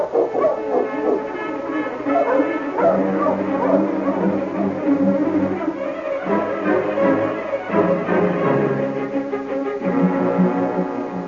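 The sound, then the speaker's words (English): Sergeant Preston's team of sled dogs barks and yips excitedly in a dense, overlapping chorus that continues steadily throughout as they are got up to travel, with no one speaking. “Get the dogs up, King.”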